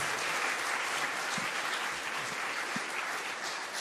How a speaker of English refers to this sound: I want you to clap for the young people. Ich möchte, dass ihr ihnen applaudiert.